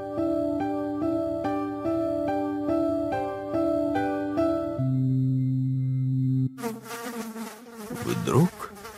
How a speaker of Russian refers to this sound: Жужжала над самым ухом Майи, и рядом на лист, где она сидела, опустилась муха.